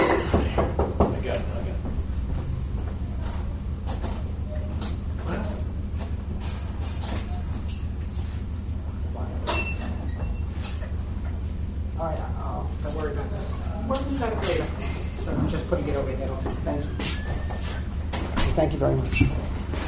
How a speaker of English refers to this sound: I think the door is locked.